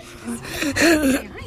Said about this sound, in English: Are we clearing our throat?